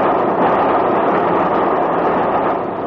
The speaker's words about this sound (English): That was Balcombe we just passed through. 20 minutes from Brighton. Say, this is a good train, isn't it? Running right on the nose. Another 40 minutes to Victoria.